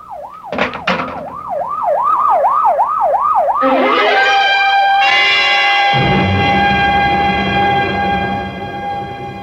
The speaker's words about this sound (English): Oh, better get that ambulance out here fast. Professor may still have a chance. Here it comes now, Lieutenant.